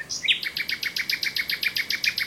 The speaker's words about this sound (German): Nachtigall.